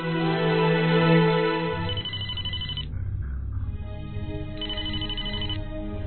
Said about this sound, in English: At the rec center, Chuck is alone in his office when the phone rings.